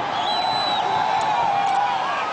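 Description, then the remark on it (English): A dense, steady roar of a crowd celebrating Kenya's new constitution in the streets of Nairobi, Kenya, with many voices shouting together and high whistle-like cries gliding over the noise throughout. “Those are crowds in the streets of Nairobi last week, celebrating Kenya's new constitution.”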